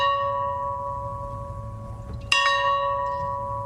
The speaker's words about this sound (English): A farm bell outside his boyhood home rang 39 times in honor of his presidency.